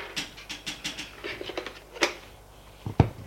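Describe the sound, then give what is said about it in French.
A telephone number being dialed by the president on his office phone at the Élysée: a quick run of light, evenly spaced button clicks, followed by two sharper, louder clacks at the end, with no voices. “et fait un numéro.”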